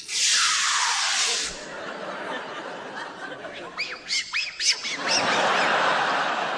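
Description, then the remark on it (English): A loud hiss of aerosol polish being sprayed, followed by a run of high squeaky rubs as a cloth wipes a tabletop, then another long spray burst. “And Jeremy, you can have the spray, polish and assorted wipes.”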